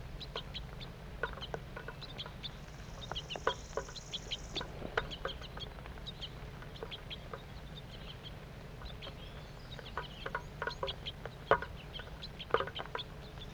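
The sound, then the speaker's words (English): A small flock of two juvenile and two adult birds calls while feeding, giving many short, high chirps and clicks at irregular intervals, with a brief sustained whistle early on, all over a low, steady rumble. “Two juvenile birds and two adults. Stop. Start recording. Feeding's now occurring.”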